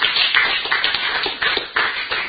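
At a recovery meeting, a crowd applauds two members after they share, many hands clapping in a dense, continuous patter that stays fairly loud throughout, with no voices over it.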